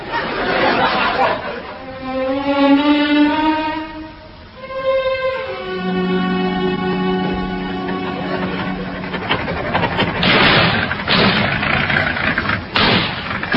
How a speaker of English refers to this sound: Car's going better since we had the new engine put in.